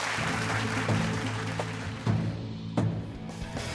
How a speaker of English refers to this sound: Good night and applause. Thank you all very much.